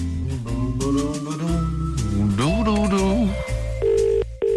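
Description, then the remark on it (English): A voice with sliding pitch fills most of the moment, then a steady electronic telephone ring tone of an outgoing call cuts in near the end, pausing briefly before sounding again, clear as if heard down the line. “It's ringing.”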